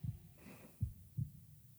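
The speaker's own human heartbeat thumps in low, muffled pulses, three beats in quick succession with a soft whooshing between them, with no voices.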